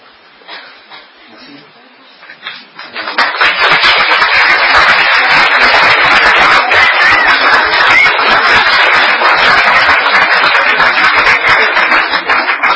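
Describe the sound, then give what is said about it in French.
After a few seconds of quiet murmur, an audience breaks into loud, dense applause, many hands clapping steadily and evenly until the end, with no pause or fade. “Si vous les applaudissez, c'est que vous approuvez.”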